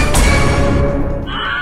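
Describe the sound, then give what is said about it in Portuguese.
A loud, harsh scream sound effect, strained and shrill like a whinny, holds for over a second before shifting lower and fading slightly at the end. No one speaks. “pelo amor, dá um grito aí com um efeito sonoro.”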